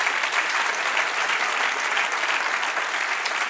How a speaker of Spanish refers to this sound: Dale un aplauso al que vive y reina. Amén.